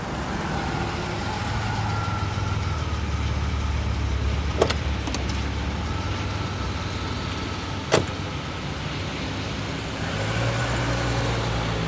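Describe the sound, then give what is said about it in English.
A taxi's engine hums steadily from inside the cabin with a constant road-noise wash while rain pours, broken by two sharp clicks midway, and the engine tone shifts near the end as the taxi slows and stops. No one speaks. “the taxi carrying Torco stops 100 meters from 3354 Mello Street”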